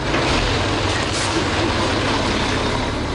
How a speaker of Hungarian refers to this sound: Ez a teherautó ugyan most csak földet hozott valahova máshova a környékre, a múlt hét óta azonban ide mások folyamatosan szállítanak az itt élők szerint kátrányt.